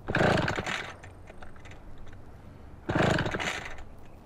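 A chainsaw being used to cut wood sputters to life in two short, loud bursts, each cutting out after a moment with uneven popping and rattling in between, as if it won't stay running.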